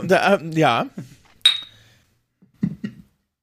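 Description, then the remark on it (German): Wine glasses clink together once in a toast, a bright ring that fades quickly. Voices speak briefly before and after it. “Prost übrigens, Prost.”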